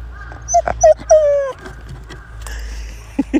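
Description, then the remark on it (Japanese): A dog, Toichiro, with powdery snow on his nose, whimpers for a biscuit during falling snow in several short, high-pitched, wavering whines, with a longer sliding whine in the middle and a couple of quick yips at the end, over steady low background rumble. “お、戸一郎くんは、鼻に雪つけて、粉雪つけて、これ調子いいのか、ビスケット、ビスケットを狙ってるのか、ビスケット欲しいの。”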